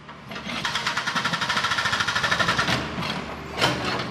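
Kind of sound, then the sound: ambience, construction site machinery noise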